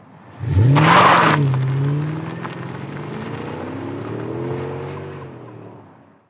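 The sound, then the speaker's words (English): An electric car surges forward with a loud burst of noise, then a smooth rising whine and whirring hum as it accelerates hard in a speed test and holds speed, fading slightly toward the end. “Okay, that was exhilarating with a capital E. I've never driven that fast, ever.”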